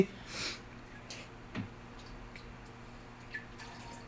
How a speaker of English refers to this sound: So she's pouring this basically blank, dead liquid. The only thing wrong with it is that it isn't carbonated.